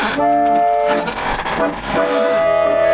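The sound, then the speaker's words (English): A chair squeaks in drawn-out, high, reedy squeals, one long squeak at the start, a rougher creaky stretch, then another sustained squeal at the end, all fairly loud with no talking. “And now we'll fade away in a radio style, and all we'll be left with is the sad sound of a squeaky chair.”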